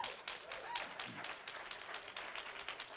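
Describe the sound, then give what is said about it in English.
Sustained applause from an audience at a church service, dense overlapping claps at a steady, fairly loud level throughout, with no pauses and no clear voices over it. “Are you clapping because we're quitting, or are you clapping because she's doing a great job?”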